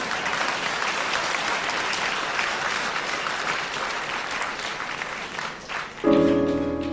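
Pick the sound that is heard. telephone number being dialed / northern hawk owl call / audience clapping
audience clapping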